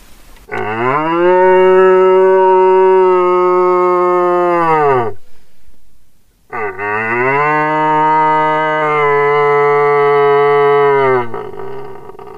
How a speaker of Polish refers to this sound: A właśnie głosem takiego byka organisty, który pobudza rykowisko, który pobudza jelenie do innego głosu. Długi, tęskny, zawodzący głos byka szukającego łania.